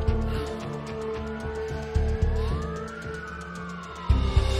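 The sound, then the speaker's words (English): A police car siren wails in rising and falling sweeps over the steady rumble of its engine as it drives off at night, with a few dull thumps. No one speaks. “sit in the back of a police car as it drives off.”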